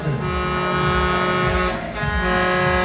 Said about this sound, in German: Alles klar, wir starten, es geht los. Das war die Hupe.